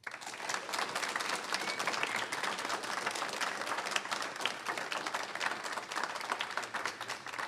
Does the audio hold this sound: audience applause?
yes